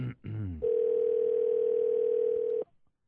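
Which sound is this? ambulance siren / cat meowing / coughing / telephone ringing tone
telephone ringing tone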